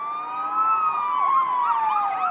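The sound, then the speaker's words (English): A Hungarian police car siren wails loudly on a highway in Hungary, then switches to a rapid warbling yelp, its pitch sliding slightly lower as it passes along the road. No voices are heard. “Hungarian police cars zoomed up and down the highway”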